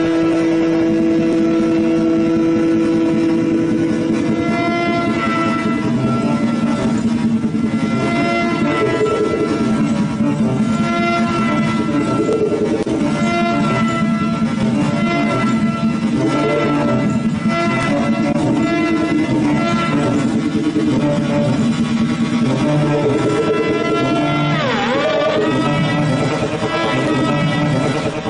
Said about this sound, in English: That's what creates the sound. And they say that the inspiration for this instrument came from a motorcycle engine. And I think you're going to understand what they meant when you hear this.